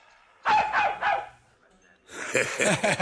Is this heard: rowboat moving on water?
no